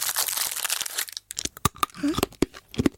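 A candy wrapper is torn open: a second of dense plastic crinkling and ripping, then a pause followed by a series of sharp, separate crackles and crunches.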